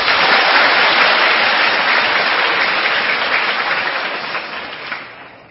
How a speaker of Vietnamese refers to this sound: Các em về đây có vui không? Vui thiệt hay vui giả? Nếu mà vui thì các em cho một tràng pháo tay.